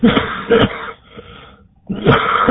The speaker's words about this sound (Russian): Я прошу прощения. Курю. Вот, оттуда и кашель.